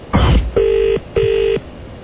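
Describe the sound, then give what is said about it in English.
A click on a telephone line, then the ringing of an outgoing call to a made-up number: two short, steady ring bursts in quick succession, thin and narrow as if heard through the handset, with no voices. “Oh, got a ring with another made-up number.”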